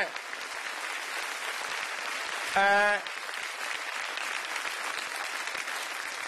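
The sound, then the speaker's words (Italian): An audience claps steadily for several seconds when asked to applaud, a dense, even patter of hands, with a brief shout or cheer rising above it midway. “Ecco, questo è l'applauso, dai.”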